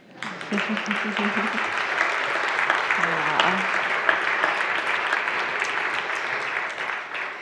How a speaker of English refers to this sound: So I'm going to have you guys clap for yourselves.